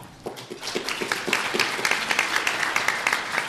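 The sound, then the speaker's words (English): An audience at a county-level political race candidates' event applauds steadily, dense overlapping claps forming a bright, crackling wash that stays fairly even in loudness for a few seconds, with no voices over it. “I cut off the applause earlier.”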